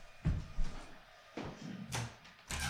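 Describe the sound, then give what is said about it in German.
A window is pulled shut, with several dull clunks and knocks from the frame and handle spread over a few seconds, ending in a firmer thud. “Ja, ich überlege gerade, ob ich das Fenster mal zumache.”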